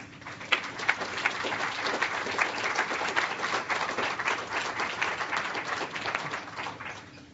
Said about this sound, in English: So let's have another round of applause for all four of our presenters and everybody who shared.